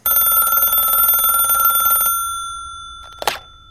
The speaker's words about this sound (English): What I needed now was an inexplicable coincidence to reveal more of the plot. The phone rang.